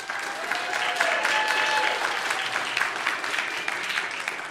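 audience clapping

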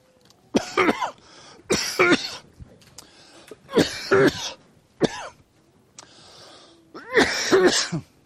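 coughing

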